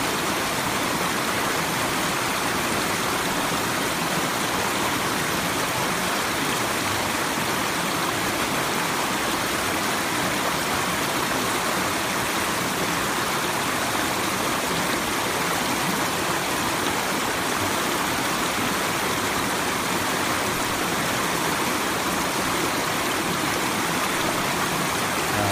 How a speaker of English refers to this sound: Okay, so check this out. This is the flow of a river. Notice not only the sound, but where you might look.